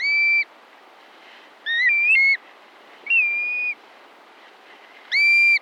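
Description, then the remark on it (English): Black-bellied plover calls: four clear, plaintive whistles spaced about a second apart, some slurred up and down, ringing loud over a faint steady hiss. “Learn more about black-bellied plovers and other birds of the Arctic National Wildlife Refuge”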